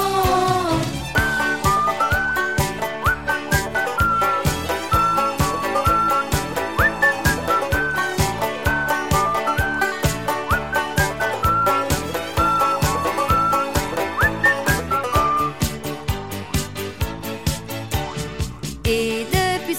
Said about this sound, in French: Chaque fois que je sens que quelque chose ne va pas, je mouille un peu mes lèvres et sans hésiter, comme l'a dit le petit oiseau, je me mets à siffler.